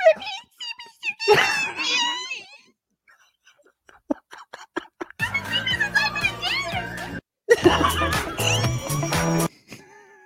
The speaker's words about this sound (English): Oh, is that a pig? There's a pig. A pig came in. The bird called in the pig.